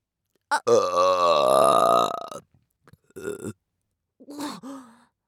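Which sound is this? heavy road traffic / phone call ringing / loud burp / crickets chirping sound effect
loud burp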